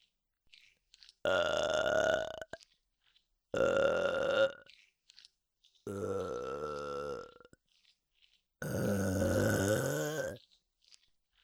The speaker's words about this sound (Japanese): ゲップも行くよ。